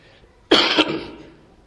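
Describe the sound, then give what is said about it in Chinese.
During a church sermon, a single loud cough from the preacher, whose throat is strained, breaks out after a brief quiet moment, with a second rasping push like a throat clearing right behind it, then trails off. No one speaks. “因为我打过嗓子，今天有点咳嗽。”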